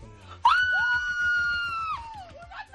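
A loud, high-pitched joyful scream rings out and holds for about a second and a half, with a second voice joining in, then trails off into a shorter excited cry: students celebrating their EBAU university entrance exam grades.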